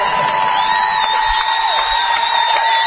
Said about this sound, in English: And in front of us, head coach Stan McComb urging the fans to stand up and cheer this team on.